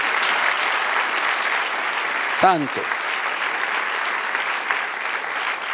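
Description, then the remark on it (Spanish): A large audience applauds God loudly and steadily, a dense wash of clapping throughout, with one voice briefly calling out over it midway. “Dale otro aplauso fuerte al que vive.”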